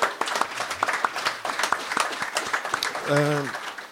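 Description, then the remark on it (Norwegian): A small round of applause at a festival in Kopervik: a few seconds of scattered, crackling hand claps from a modest group, with a brief voiced call or whoop rising near the end. “Ja, med en liten applaus.”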